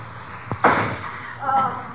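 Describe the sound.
A single firecracker set off on a suitcase lock inside a house, to blast the lock open, goes off with a sharp crack and a short, rattling burst that quickly dies away, followed by a brief voice.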